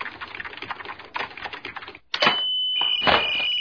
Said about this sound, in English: What's wrong with this phone? It's making crazy noises. Those crazy noises are computer signals. Yeah, some guys at MIT are sending us reasons why Captain Picard is better than Captain Kirk.